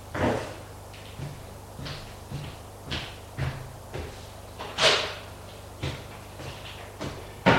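A bedroom door is handled and shut, producing a series of irregular wooden thuds and clunks, the loudest near the middle, with no voices.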